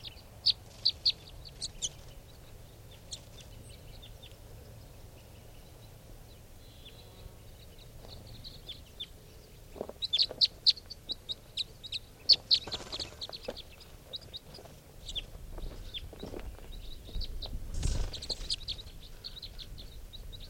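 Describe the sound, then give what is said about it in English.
Wild birds cluck and call outdoors around a truck, with scattered chirps and sharper bursts growing busier midway through, over a steady low rumble of background noise. “They're going into the wild birds.”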